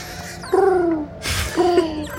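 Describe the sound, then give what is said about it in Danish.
A person imitates an owl with two voiced hoots, a longer one sliding slightly downward, then a shorter one after a brief pause, fairly loud. “Det er første gang, nogen har lavet en fuglelyd, når der har været en fugl.”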